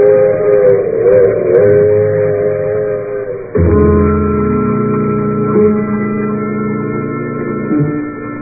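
A train whistle sounds in two long, sustained blasts of layered tones as the train continues from Spooner Falls on to New York, loud and steady, with a brief break midway before the second sustained chord-like wail continues.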